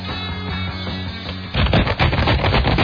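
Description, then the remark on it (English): A steady, tonal musical bed gives way midway to loud, dense paper rattling, a rapid crinkling and crackling that continues to the end with no one speaking. “This paper rattling is in honor of Rush Limbaugh today, by the way.”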